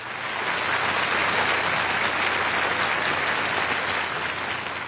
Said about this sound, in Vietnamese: Mấy giây trôi qua, bỗng khán giả như chợt tỉnh sau cơn mơ và tiếng vỗ tay nổ phá lên, kéo dài, vang dội cả hí trường.